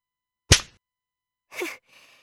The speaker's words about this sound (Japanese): そうやって床を叩いてみたって脅しになってないよ。